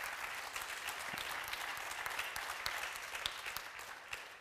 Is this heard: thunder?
no